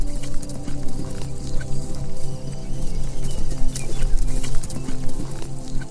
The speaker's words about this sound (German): Fröhlich wiehert die Stute dir zu, als du dich umblickst, um nach ihnen zu schauen.